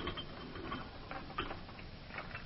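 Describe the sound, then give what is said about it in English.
A yard gate is locked with a run of metallic clicks and ratcheting rattles, a latch mechanism working in short irregular bursts at moderate loudness, with no one talking. “Wait a minute. I'll lock up again.”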